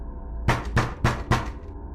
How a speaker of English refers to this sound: About an hour later, I hear a knock at my door.